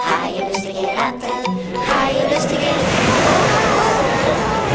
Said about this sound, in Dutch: De golven sloegen over het dek. De wind beukte in de zeilen en deed de andere masten wankelen. Het schip rolde en stampte als een op hol geslagen paard.